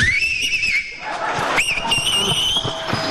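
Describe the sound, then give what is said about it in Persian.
On Radio Farda, a person does a nightingale whistle without using their hands, a warbling, birdlike trill with the pitch wavering rapidly up and down in two bursts with a short break between, fairly loud against a busy, noisy background. “من دارم سوت بلبلی میزنم. بدون دست.”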